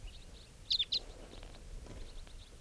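A quick cluster of three high, thin chirps from a flock of about 10 crossbills flying overhead near a bird-catching net, followed by fainter scattered calls over a low outdoor rumble.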